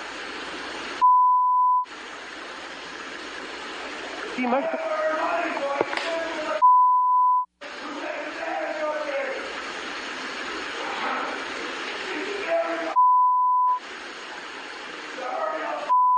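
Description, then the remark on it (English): Three sustained, steady electronic beeps, each about a second long, sound at roughly six-second intervals, filling gaps between stretches of muffled talking and busy background noise. “Make the beeps louder”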